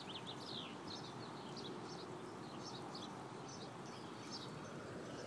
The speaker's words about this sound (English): Oh, we had chirpy birds. It's lightly raining. Well, it's more than lightly raining. I'm going back over onto the porch area here. We have chirpy birds over there. I'll be quiet.